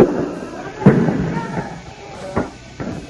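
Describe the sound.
Three sharp, hollow shots from tear gas canister launchers fired by Córdoba police at students pop out at uneven intervals, the first the loudest, over a restless background of crowd noise and murmuring voices.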